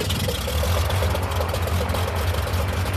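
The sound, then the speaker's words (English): A small propeller plane engine, the first of a dozen small planes starting up at dawn in Tsavo National Park, southeast Kenya, for an aerial census of the elephant population, runs steadily with a low, throbbing drone and a faint regular ticking pulse, loud and continuous with no voices. “The first of a dozen small planes start up, gathered for an aerial census of the elephant population.”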